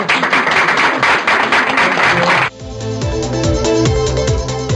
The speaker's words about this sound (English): So thank you so very much. And please give them a big round of applause.